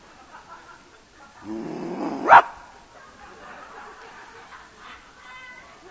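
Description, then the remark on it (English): A person growls like an animal, a short rough rumbling snarl that builds and ends in a sharp bark-like burst, fairly loud, followed by quiet murmur. “Legally, that's about all I can do to you, is growl at you.”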